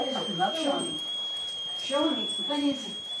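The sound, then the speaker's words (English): A tea kettle whistles in a living room with a steady, high, unwavering tone that runs through the whole clip, while a person talks over it in short bursts. “In fact, while speaking in her living room, decorated with several colorful paintings she did herself, the kettle did whistle.”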